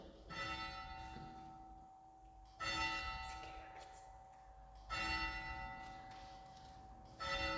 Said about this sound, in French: Et nous entendons d'ailleurs la cloche.